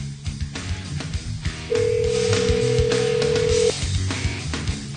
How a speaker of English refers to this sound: We promised a grand prize drawing and here it is. If your phone is ringing, pick it up. It's us.